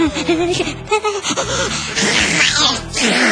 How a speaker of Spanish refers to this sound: ¿Cómo una niña tan pequeña puede hacer eso? ¿Cómo puede estornudar como un vato borracho de la Garibaldi? Bueno, la pequeña estornuda y vemos salir un moquito a toda velocidad disparado con dirección desconocida